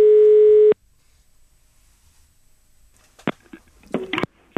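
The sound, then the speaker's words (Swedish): A single loud, steady telephone ringing tone sounds for under a second on an outgoing call placed from a library, followed by a quiet pause and then a few sharp clicks as the line is picked up. “Och det är därifrån vi ringer nu.”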